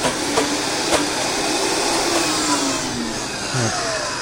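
A kitchen blender blending tomato, saffron and water whirs at high speed, a loud, steady motor roar with no voices, its pitch shifting slightly near the end.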